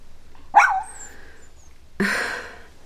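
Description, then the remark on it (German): A small light-brown dog sitting on its hind legs about two steps away barks twice, sharp yips spaced about a second and a half apart, the second bark rougher and slightly longer, with quiet background between them. “Zwei Schritte von ihr entfernt sitzt ein putziger hellbrauner Hund auf den Hinterbeinen und hält die Vorderpfoten vor der Brust gekreuzt.”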